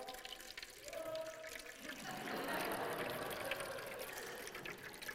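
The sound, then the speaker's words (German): Water runs and splashes steadily, spilling over the rim of a full glass and trickling into a bowl below, a continuous bright liquid rush that grows fuller after the first couple of seconds. “Das Glas ist voll und alles, was dort nicht mehr reinpasst, das fließt oben drüber. Das wird in dieser Schüssel aufgefangen.”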